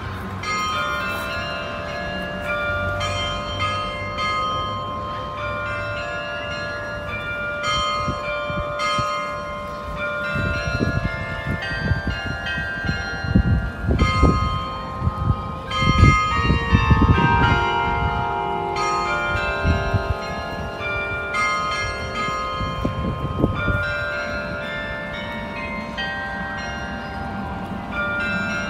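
The church bells of Oscarskyrkan in Stockholm ring out a catchy pop tune, their notes overlapping and sustaining in a rich, resonant wash that swells louder midway through, heard clearly with no one speaking.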